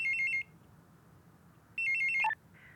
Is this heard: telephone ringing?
yes